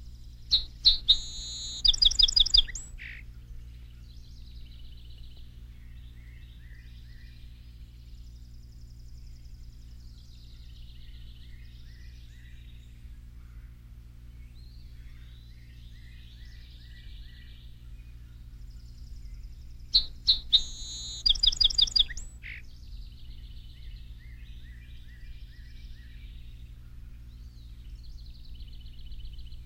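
A song sparrow sings two bright, high-pitched phrases about twenty seconds apart, each opening with sharp notes and rolling into buzzy trills, with softer chirps and a steady low hum between.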